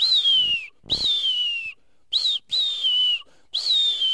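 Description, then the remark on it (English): A marbled murrelet, flying fast through the canopy of old-growth trees just before landing at its nest, calls five times in quick succession, each a loud, high, slightly descending whistled keer with short gaps between, no voices present. “And that is the marble murrelet. And they call right before they're going to land at their nest.”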